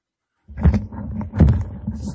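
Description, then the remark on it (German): A deep, rumbling bear-like growl starts after a brief silence and swells into two rough, throaty roars, fairly loud, with a low grumble continuing between them. “Muss aufpassen, da ist ein Bär in deinem Zimmer.”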